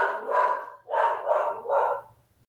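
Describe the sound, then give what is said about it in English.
A dog barks four times in quick succession, the barks fairly loud, each a short burst with brief gaps, then the sound trails off into quiet. “I did mention the dog, right?”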